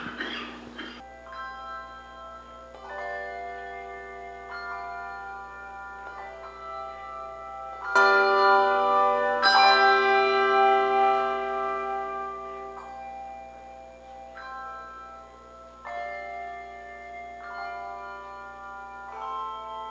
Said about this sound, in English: We have gathered to worship God, so let's set aside distractions as we turn our attention to the Lord and listen to the bell choir and prepare to worship.